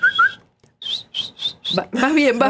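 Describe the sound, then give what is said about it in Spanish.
Someone who cannot yet whistle and is learning tries to whistle, producing a thin tone and then four short, breathy, airy bursts in a row, followed by a burst of voice that sounds like laughter. “Yo no sé silbar, pero estoy aprendiendo.”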